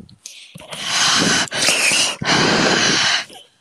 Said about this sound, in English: you keep breathing on this mic.